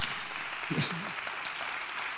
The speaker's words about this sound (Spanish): un fuerte aplauso, de verdad.